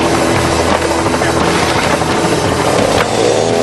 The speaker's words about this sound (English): All right, chainsaw starts, he's cutting. Walking about halfway through the log with the chainsaw is dangerous.